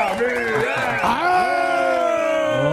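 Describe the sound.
A crowd cheers and whoops loudly, many voices shouting and yelling together in sustained rising and falling calls over a steady wash of audience noise.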